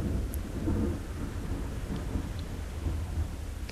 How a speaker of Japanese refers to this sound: あー、雨降ってきましたね。なんか天候が意外にこう天気予報最近当たらない。あ、また雷が鳴りそうだ。